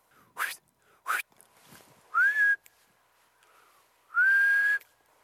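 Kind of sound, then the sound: bird, bird singing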